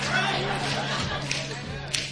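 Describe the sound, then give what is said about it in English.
A concert crowd in Greenville snapping their fingers in tempo for a song being recorded for an upcoming CD, a dense crackle of sharp clicks with a couple of louder accents standing out, over a steady low hum. “We need your help on this following number through the form of finger snaps.”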